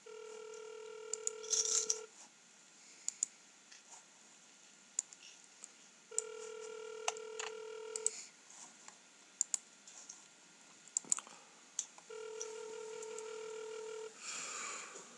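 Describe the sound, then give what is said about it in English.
A phone line rings out three times, each steady two-second tone separated by long pauses, with scattered soft clicks and taps between rings. No one speaks. “Pick up your phone.”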